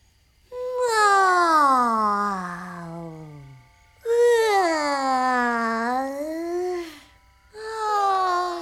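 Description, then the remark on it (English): A loud, drawn-out yawn, coming from a neighbour's house, repeats in three long voiced waves, each sliding in pitch, the first dropping low and the second dipping then rising, with short silences between. “One starry, starry night, as Captain Sleep is getting ready for his next big bedtime adventure, he hears a loud yawn coming from his neighbor's house.”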